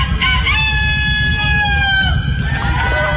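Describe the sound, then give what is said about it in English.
A person imitates a rooster crowing: one long, wavering cock-a-doodle-doo that bends downward in pitch near the end, over a loud, rumbling background. “That literally sounded like a rooster.”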